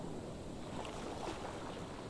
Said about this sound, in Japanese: 波の音を聞いているうちに心がスーッと引きずり込まれていく。